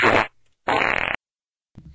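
fart sound effect

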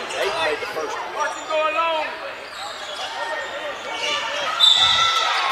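crowd

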